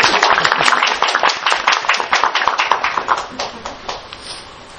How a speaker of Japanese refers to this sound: はい、じゃあ拍手をお願いします。